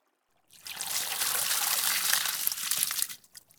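Water runs steadily for about two and a half seconds, rinsing soap foam off a person's hair, a broad hissing splash with a soft crackle of foam, starting abruptly and tapering off at the end. No voices.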